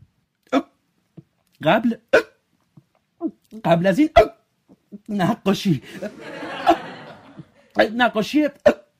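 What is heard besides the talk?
hiccups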